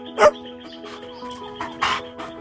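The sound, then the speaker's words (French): A dog, Ten, barks a few times as it bursts out of a bush, one sharp loud bark first and then softer, spaced-out yips, over a quiet sustained musical drone. “Un chien jaillit un jour d'un buisson.”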